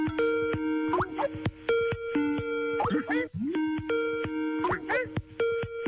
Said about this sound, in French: Oui, c'est quand on appelle quelqu'un sur Skype. Eh oui, c'était la sonnerie Skype.